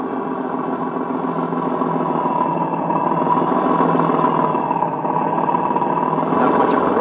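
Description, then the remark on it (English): A car engine drones steadily, a continuous rumbling hum with a rough, bumpy texture as the car drives along a dirt road. No voices, and it never lets up. “We can't just drive around here all night.”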